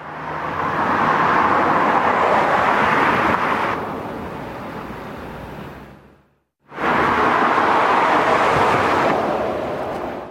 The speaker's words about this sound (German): Und der Unterschied hört man gut, wie bei dem Beispiel hier, wo Auto vor durchfahren und von einem herkömmlichen Strassenbelag auf einen neuen Flüsterbelag fahren.